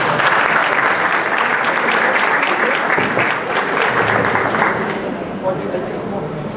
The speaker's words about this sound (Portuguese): uma salva de palmas por gentileza.